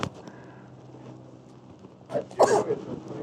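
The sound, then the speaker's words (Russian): A raspy, phlegmy smoker's cough breaks out near the end: a short hack followed by a harsher, longer burst, fairly loud over a quiet background hum. “Кашель курильщика.”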